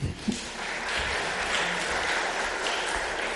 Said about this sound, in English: Thank you all. Give them a clap.